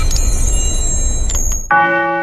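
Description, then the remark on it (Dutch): A clock bell chimes with one loud, ringing strike that sustains with bright overtones, following a stretch of steady low rumbling noise and faint high tinkling. “Hoor je dat? De klok zegt dat het tijd is voor de borrel.”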